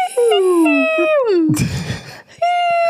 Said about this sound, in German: Nee, das Kratzen ist nicht das Problem, dieses Gähnen. Weil dieser Hund kann nicht gähnen, ohne diesen zu Laut zu machen, ja.